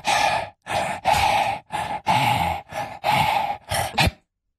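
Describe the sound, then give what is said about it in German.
A voice pants rhythmically in eight quick, loud, breathy bursts, mimicking the beat of a song with huffing breaths instead of singing, as a song-guessing puzzle. “Du wolltest so irgendwelche Lieder hecheln.”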